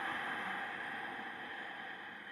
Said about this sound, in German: Nehmt auf diesem Weg ein paar tiefe Ein- und Ausatemzüge. Bleibt dabei und kommt so in den Genuss des sogenannten Ujjayi-Atems.